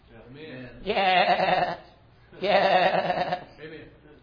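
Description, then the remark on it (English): A person imitates a sheep, giving two loud, wavering bleats about a second apart, each quivering "baa" sustained for close to a second, with quieter vocal sounds in between. “Goat's butt. Sheep bleat.”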